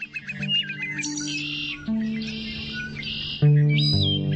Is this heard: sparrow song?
yes